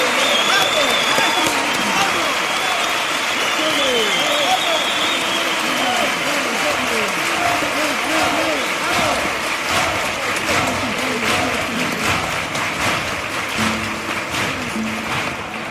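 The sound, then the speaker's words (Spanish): A large audience applauds loudly and steadily after the second verse of a carnival song, with many voices cheering and shouting through the clapping, a dense, sustained crowd roar that eases slightly near the end. “muy muy aplaudida en esta segunda letra, que hacen, bueno, pues autocrítica, ¿no?, de cuando los andaluces nos tiramos y nos criticamos unos a otros.”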